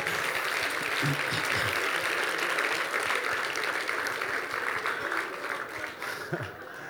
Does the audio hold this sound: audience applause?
yes